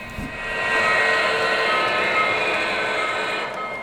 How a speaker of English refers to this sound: That was a big innovation in electric trains, was when Lionel came out with a whistle, an engine that whistled like steam engines.